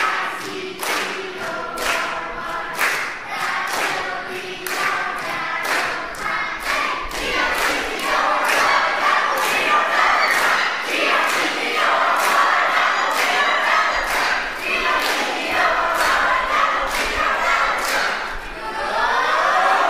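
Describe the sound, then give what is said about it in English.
A crowd of orange and green team supporters in a cheering contest cheers and shouts loudly and continuously for about twenty seconds, with rhythmic thumps or stomps pulsing steadily underneath the roar. “Who's going to cheer for their team?”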